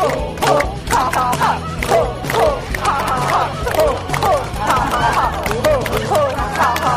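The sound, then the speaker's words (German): A group doing laughter yoga exercises claps in a steady rhythm while chanting short, repeated ho and ha syllables together, loud, with voices overlapping throughout. “Bei den Yoga-Übungen wird sich gedehnt und gestreckt, dann in die Hände geklatscht und gemeinsam ho ho ho, ha ha ha ha gesagt.”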